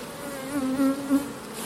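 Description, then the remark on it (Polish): Honey bees buzz in a steady drone that swells slightly louder a couple of times, with no voices present. “No nie, ja mam możliwość się pieścić z tym pszczołami.”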